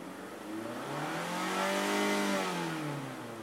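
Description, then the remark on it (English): A car passes by on a road beside a cemetery in Durham, North Carolina, its engine hum and tire noise swelling to a peak midway, then easing off as the pitch drops. No one speaks. “Is it a traffic jam in LA?”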